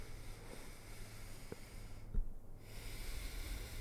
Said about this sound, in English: What, did you just breathe through your nose in and out?